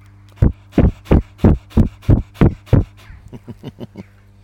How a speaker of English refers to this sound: You hear the dog panting?